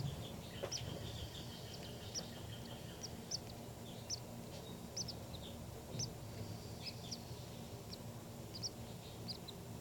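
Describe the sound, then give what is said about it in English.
Thin, high-pitched calls of baby birds repeat in quick, uneven bursts across the whole clip, fairly faint over a steady low rumble of background noise. “These are the calls of the baby birds.”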